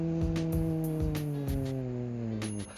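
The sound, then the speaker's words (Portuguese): A bus rumbles past in front of a house on a street like a busy avenue, its engine droning in a steady tone that sinks slightly in pitch, with regular rattling thumps over the top and no voices. “Isso aí é um ônibus, beleza, galera? É um ônibus que passa sempre aqui na frente da minha casa, porque eu moro em uma rua que é semelhante a uma avenida movimentada.”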